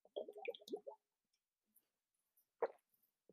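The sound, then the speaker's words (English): Sips from a giant water bottle: a quick run of wet, bubbly gulps and glugs, a brief quiet pause, then one louder sloshing plop. No one speaks. “I do need a sip from my giant water bottle.”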